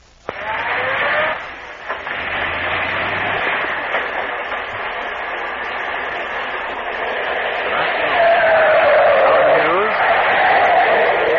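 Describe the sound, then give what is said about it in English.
Car brakes screech in a long, high-pitched squeal over a steady roar of traffic noise, growing louder and shriller toward the end as the vehicle grinds to a stop. “Wow, how the brakes on the thing. Watch, see that truck?”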